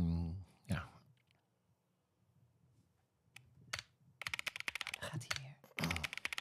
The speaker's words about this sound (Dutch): Nou, wil jij weer in de startblokken voor je type zien? Ik ga even weer iets typen.